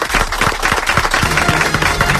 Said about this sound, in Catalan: un aplaudiment per